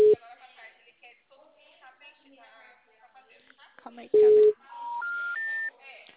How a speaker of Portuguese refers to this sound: O telefone encontra-se ocupado. Né? Por favor, tente mais tarde. O número está ocupado.